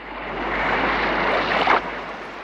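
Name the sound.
sea waves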